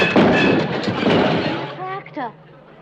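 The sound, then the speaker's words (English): A barn door gives way in a loud, rumbling crash of splintering and banging that lasts over a second, then fades into a few high, squeaky creaking glides. “There goes the barn door.”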